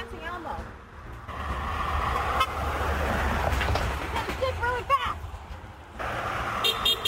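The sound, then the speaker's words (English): Busy traffic rumbles along as a few short car horn beeps sound out at a person dancing as Dance Party Elmo, with voices and chatter mixed into the street noise and a couple of quick toots near the end. “I got a couple beeps at the end”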